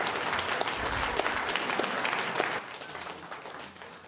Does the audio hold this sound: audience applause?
yes